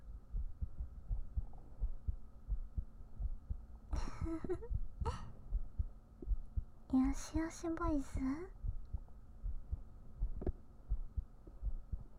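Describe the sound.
A steady, soft heartbeat thumps low throughout in a binaural ASMR recording, with short bursts of a woman's speech passing over it partway through.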